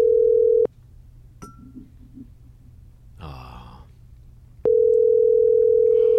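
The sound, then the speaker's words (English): A phone call rings out: a loud, steady low-pitched ringback tone sounds in two bursts separated by a silent gap of several seconds, with a faint breath and click in between. “It's ringing.”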